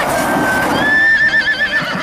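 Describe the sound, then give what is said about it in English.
A horse sound effect in a film: a horse neighs loudly for about two seconds, a high whinny that holds steady and then breaks into a rapid, shaking quaver as it fades, with no voices over it. “Ooh, good horsey sound effects there.”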